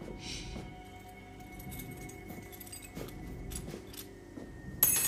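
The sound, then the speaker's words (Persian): Keys jangle as they are handed back, in several short, bright metallic bursts spread across a few seconds, with a low steady hum underneath and no voices. “کلیدمو پس بده.”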